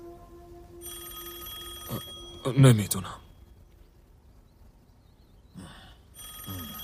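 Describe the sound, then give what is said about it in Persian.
A telephone at a police office rings in repeated electronic bursts, fairly loud, with a pause between rings. A person speaks briefly in the gap. “میشه یه نفر اون تلفنو جواب بده؟”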